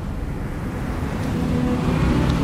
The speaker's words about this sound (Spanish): Olas profundas y retumbantes del océano rompiendo contra acantilados escarpados